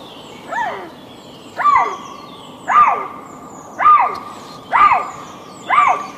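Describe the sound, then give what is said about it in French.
A female lynx, about 60 to 80 metres away in the snow, calls six times in a steady rhythm, each a loud, hoarse, rising-then-falling wail lasting about half a second, with short pauses between calls. “C'est vous qui avez enregistré les cris de cette femelle lynx que l'on entend derrière nous.”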